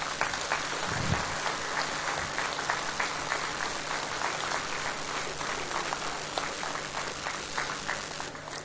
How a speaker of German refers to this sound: Das ist wirklich toll, dass ihr alle da seid, glaube ich, so ziemlich. Und das, finde ich, verdient auch einen Applaus.